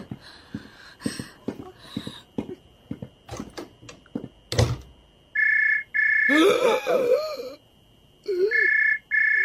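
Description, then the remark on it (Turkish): A telephone rings with long, steady electronic trills repeating three times, fairly loud, after a run of sharp knocking and clattering sounds, with a brief voice overlapping the second ring. “Zeng açtılar.”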